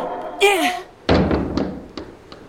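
A door is slammed shut with a loud bang and a short rattling decay, followed by a few faint knocks. A brief high-pitched vocal sound comes just before the slam.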